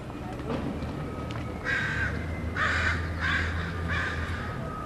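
A radio-tagged crow gives a run of harsh, scolding mobbing caws directed at the people watching it, four or five raspy bursts in a steady rhythm, loud over a low rumbling background hum.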